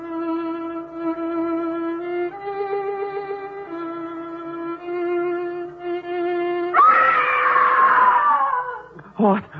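woman screaming

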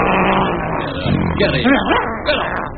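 dog barking

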